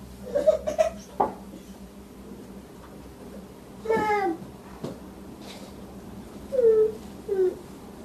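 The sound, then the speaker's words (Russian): A young child makes short, high-pitched vocal sounds in three brief bursts, somewhat whiny and sing-song, over a low, steady background hum, as the child chimes in to prompt an answer during a group discussion. “Ребенок подсказывает.”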